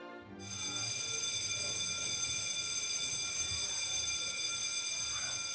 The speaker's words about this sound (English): Sorry, our bell's here like uncomfortably long.